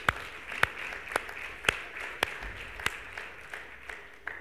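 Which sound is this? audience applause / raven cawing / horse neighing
audience applause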